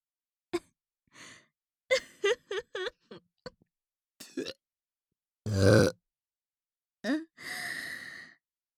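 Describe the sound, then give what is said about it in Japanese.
A loud belch, an impolite burp after swallowing thick semen, rumbles out amid a series of short breathy vocal noises and sighs, followed by a long drawn-out exhale. “あなたのザーメンがあまりにも濃いものですから、はしたなくゲップをしてしまいました。”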